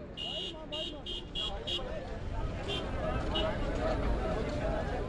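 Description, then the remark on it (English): A rapid series of electronic beeps sounds over the steady rumble of a public bus engine, while a crowd of migrant workers murmurs and jostles, fighting to board one of the few buses back to their labor camp on the outskirts of Dubai, and the driver shouts at them. “Migrant workers fight to get on one of the few public buses to take them back to their labor camp”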